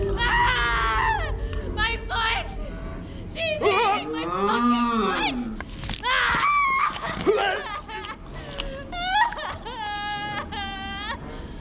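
A cow moos repeatedly, several loud, drawn-out bellowing calls with a rising and falling pitch, broken up by brief thumps and rustling between them.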